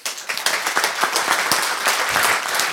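Sustained applause from an audience for everyone who attended the day's event, many hands clapping in a dense, steady wash of bright crackling claps that holds at an even, fairly loud level throughout, with no talking over it.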